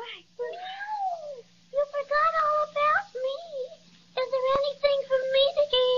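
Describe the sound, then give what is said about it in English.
A cat meows repeatedly, a series of high, whiny mews in quick bursts with short pauses between them, some drawn out and wavering. “Well, I didn't mean to overlook you, little fraidy cat.”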